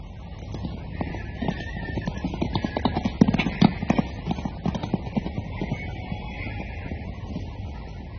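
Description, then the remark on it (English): Wild horses at Kaapsehoop clip-clop in a steady, uneven patter, growing busier and louder in the middle before easing off, with a low outdoor rumble underneath and no talking. “The thing about Kaapsehoop, apart from the rocks that people say have magic qualities, are the wild horses.”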